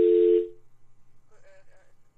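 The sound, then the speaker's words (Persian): A loud, steady telephone tone sounds for about half a second and then cuts off, followed by a quiet pause and a faint, brief voice on the line, as a radio programme calls its guest again after a broken phone connection. “اما نسبت ارتباط خراب تلفن ما دوباره با ایشان زنگ میزنیم و یک وقفه کوتاه میگیریم.”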